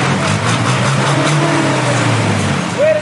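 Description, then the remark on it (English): Steady, loud street traffic in the streets of Nairobi, Kenya, with car and truck engines droning as vehicles jostle for space, a continuous low rumble with passing vehicles and a brief higher engine whine near the end. “As other vehicles jostle for space while belching clouds of dark smoke in the streets of Nairobi”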